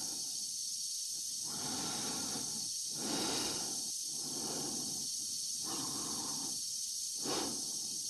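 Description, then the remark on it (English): Slow, heavy breathing of a person, as in the film 2001, with steady rhythmic inhales and exhales repeating about every second and a half over a constant airy hiss, and no talking. “How he builds suspense in 2001 just with the sound of somebody breathing.”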